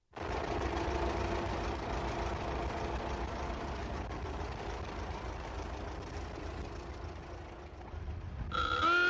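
An old vintage car engine runs close by with a steady, throaty rumble and chugging low end for several seconds, before a brighter tonal note, like a horn, cuts in at the very end.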